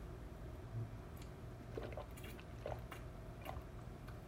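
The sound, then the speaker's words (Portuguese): Someone drinks water, with soft wet gulps and swallows at a slow, steady pace over quiet background hiss. No one speaks. “Bebi água.”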